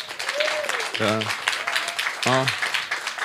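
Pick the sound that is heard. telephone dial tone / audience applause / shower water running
audience applause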